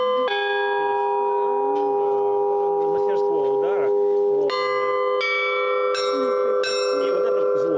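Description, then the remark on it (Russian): Church bells ring out loudly, several strikes overlapping so their long tones blend into a shimmering, sustained peal, with faint voices murmuring underneath; blind students ring the bells on a ground-level belfry at the parish church of Great Martyr Demetrius of Thessaloniki in Kursk, Russia. “Колокольный звон исцеляет тело и душу.”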